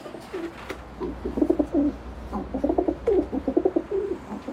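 Pigeons coo in soft, rolling phrases, two bursts of throaty, repeated calls, over a steady low background hum.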